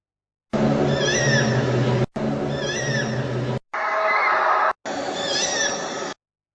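Four short, back-to-back recordings, the first from Ukraine and the other three from three other places, each carrying high, warbling bird calls over a steady rumbling hiss, separated by abrupt cuts of silence. No one speaks.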